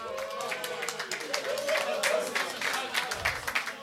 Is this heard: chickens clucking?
no